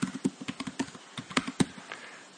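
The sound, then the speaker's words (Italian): Rapid, uneven clicking of keys being typed on a keyboard into a music search text field, about a dozen taps in quick bursts with short pauses, and no voices. “Vediamo se ho digitato bene.”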